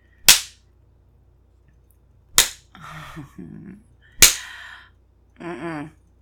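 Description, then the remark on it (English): Three sharp, loud slaps of a hand spanking bare skin on a stomach, spaced a couple of seconds apart. Short whimpering, moaning vocal sounds follow the second and third smacks. “Your cock responds quite nicely when I spank your stomach.”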